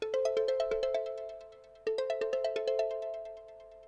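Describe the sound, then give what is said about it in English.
A bright electronic phone ringtone for an incoming call plays a quick run of chiming notes, pauses briefly, then repeats the same melodic pattern, clear, with no voices. “So this is the phone call.”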